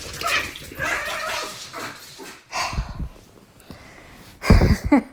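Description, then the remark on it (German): Several dogs, including Bambi and Laila, squabble as Laila tries to take a small dog burger Bambi was given, trading growls, yips and sharp barks in bursts, with a loud flurry of barking near the end. “Bambi hat heute so einen kleinen Burger gekriegt für Hunde. Und den wollte sich Laila gerade holen.”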